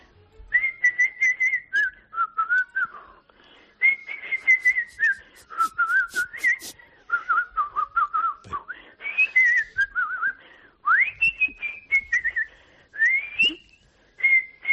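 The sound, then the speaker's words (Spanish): A person whistles a lively, continuous folk-style melody, imitating a txistu and a flute, the clear tune rising and falling in phrases with brief breaths between. “Porque, por ejemplo, la mía, que es el saber silbar imitando al chisto y a la flauta, ¿silbo un poquito a ver?”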